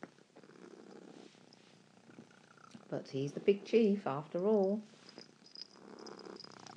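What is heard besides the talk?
cat crying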